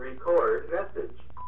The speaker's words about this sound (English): Hang on, I got to get the phone.